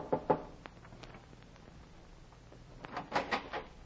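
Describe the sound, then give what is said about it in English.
Sharp knocks on the wooden cabin door of a ship docked in a harbor: a quick pair at first, a pause, then a louder cluster of three or four raps. No one speaks. “I went aboard one and knocked on the cabin door.”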